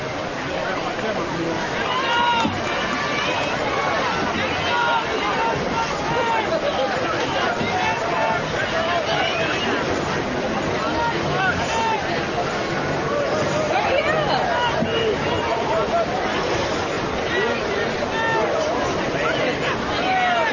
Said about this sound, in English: good crowd on hand here tonight. Stands are packed here, taking this one in.